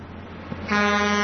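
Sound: car horn honking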